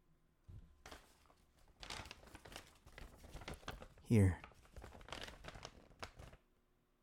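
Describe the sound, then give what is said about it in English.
Loud paper bag crinkling as a bag holding a cat plushie is handled, with bursts of rustling and crackling throughout and a sharp loud crunch in the middle; a person speaks briefly. “No, not the paper bag. What's inside the paper bag? Open it.”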